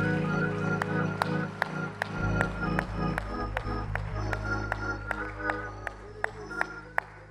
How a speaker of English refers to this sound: Let's give God one more hand clap of praise as you're seated.